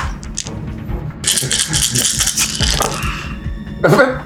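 Eight dice are rolled across a table during a tabletop role-playing game, rattling and clattering in a dense burst of hard clicks lasting a few seconds, ending with a sharper knock as one die lands on top of the wild die, with faint voices murmuring underneath.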